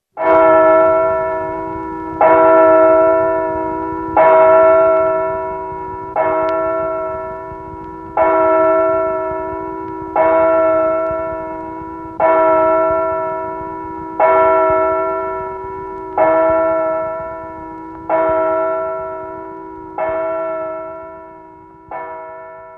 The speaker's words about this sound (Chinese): 有一天，他来到了泰晤士河畔，正当他绝望地想从岸上跳下河里时，忽然听到了教堂的钟声。